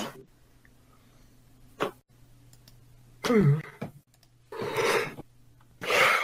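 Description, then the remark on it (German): A man yawns again with a drawn-out, breathy exhale that slides down in pitch, followed by a couple more loud, airy breaths. Nobody speaks, and a faint steady hum sits underneath. “Und er gähnt wieder.”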